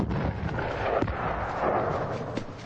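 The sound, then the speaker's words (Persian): A bomb explodes in water nearby, a deep, sustained roar and rumble broken by a couple of sharp thudding bursts, loud and close, with no voices. “یه بمب نزدیک اونا در آب میفته.”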